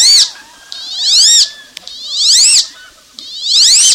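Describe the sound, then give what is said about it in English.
A male wood duck gives its response call to the female: three loud, drawn-out, high squealing whistles, each rising and then sliding down. The calls come at even intervals with short quiet gaps and no talking. “Although you're less likely to hear it, the male responds with this call.”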